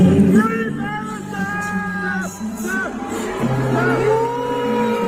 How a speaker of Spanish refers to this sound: Abucheos, gritos de Free Palestine, Palestina Libre, más ejemplos desde otros puntos. Más abucheos, más silbidos, nada de esto se ha escuchado en la retransmisión, por supuesto,